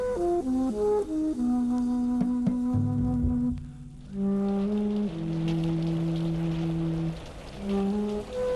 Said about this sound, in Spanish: Llueve también allá en el poblado de los Samanes.